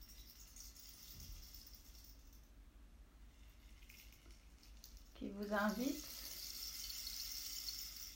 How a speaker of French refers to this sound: À vous laisser rêver. À vous laisser rêver par le son de ce bâton de pluie.